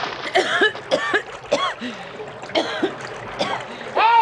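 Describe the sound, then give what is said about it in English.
Repeated splashing in water as a person is thrown over the side of a boat into the Nile river, mixed with gasps, coughs and spluttering vocal sounds, arriving in irregular bursts across the whole clip. “I'm in the river!”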